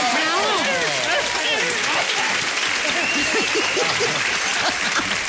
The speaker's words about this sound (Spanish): ¡Fuerte el aplauso! ¡Bravo!